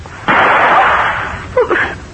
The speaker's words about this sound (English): That sounded like a gunshot.